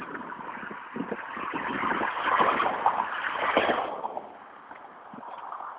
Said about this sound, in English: This is a much more substantial highway, tarred and everything. Speed limit, I think, is 50, might be 55. So you'll hear a lot more traffic and going much faster.